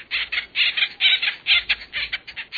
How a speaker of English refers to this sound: The cartoon Woody was an imp, but the acorn woodpecker is an industrious bird. A family group will store thousands of acorns over the course of a year.